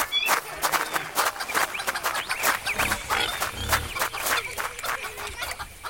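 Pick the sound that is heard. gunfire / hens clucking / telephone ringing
hens clucking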